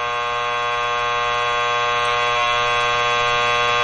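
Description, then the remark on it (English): A harsh, steady electronic game show buzzer blares continuously for several seconds without a break as Zach Galifianakis holds it down, loud, its rich droning tone never letting up. “All right, and then Zach Galifianakis just lays on the buzzer.”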